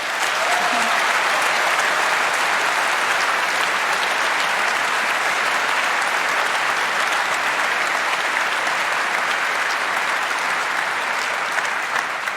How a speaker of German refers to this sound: Und darum danke und bitte von eurer Seite, ich wünsche mir nicht viel, aber für dieses Team einen großen Applaus.